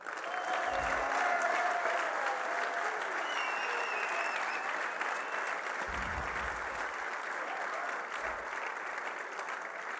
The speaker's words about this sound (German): Jetzt mal nur ein Applaus von den Männern für die Frauen.